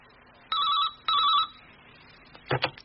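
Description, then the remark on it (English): A telephone rings twice in quick succession, each trill a warbling electronic buzz, followed by a brief clatter as if the handset is picked up. Clear. “After that, I'll have a pee, then find a phone and give him a ring.”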